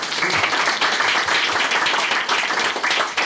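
A crowd applauds steadily, a dense wash of many hands clapping at once that holds at an even, fairly loud level throughout, with no voices over it.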